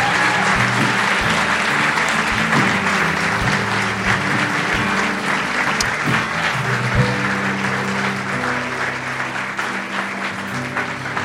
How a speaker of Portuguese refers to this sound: Você pode dar ao Senhor mais um forte aplauso?